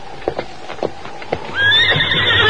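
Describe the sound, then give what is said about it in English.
A few hollow hoof clops sound at an uneven walking pace, then a horse lets out a loud, shrill whinny that wavers and trails off, with no voices. “My horse is behind that rock over yonder.”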